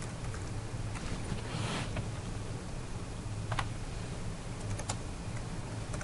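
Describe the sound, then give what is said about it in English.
Computer keyboard typing of debugger commands such as bang CPU ID on the host machine: a few scattered, fairly quiet key clicks spaced irregularly over a steady low background hum, with no one talking. “So as you're typing it in, it will show you the list of commands that match what you've typed so far.”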